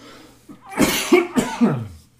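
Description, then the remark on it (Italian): A fairly loud fit of coughing: three or four harsh bursts in quick succession over about a second, with no talking around them. “Scusate, colpo di tosse.”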